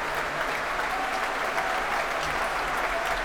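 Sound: concert audience applause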